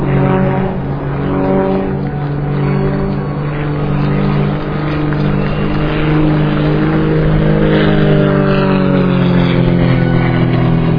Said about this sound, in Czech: To je avion Extra 300 koji se inače koristi na Red Bull Air Race.